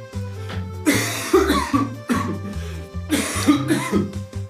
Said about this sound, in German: Nico, ich muss jetzt einmal kurz husten.